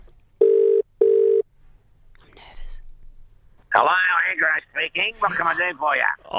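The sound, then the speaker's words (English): A phone ringback tone sounds once as a quick double burst of steady, mid-pitched tones, followed by a faint rustle, then a voice answers and speaks clearly over the line. “So I'm just going to phone him, see if he hopefully will pick up. It's good. It's ringing.”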